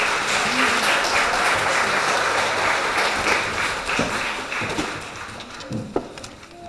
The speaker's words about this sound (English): Can we give our helpers a round of applause? Thank you very much for your help.